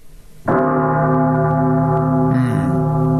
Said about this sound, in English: All right. Option number 2, we got a little more deeper bass-sounding bell.